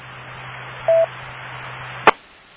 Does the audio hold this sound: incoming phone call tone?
yes